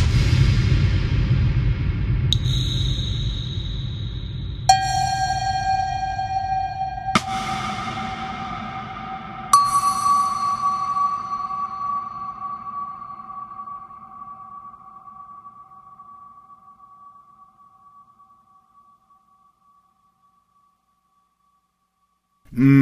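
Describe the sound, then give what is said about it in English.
Four bright, bell-like tones strike a few seconds apart, each run through a cathedral reverb simulation on an RFX-series 1000 multi-effects unit, swelling into a vast, smooth, highly diffused reverb whose long tail slowly fades away over about ten seconds. No one speaks. “That cathedral simulation you just heard is full of highly diffused reflections, and it resolves in a long, smooth, ambient tail.”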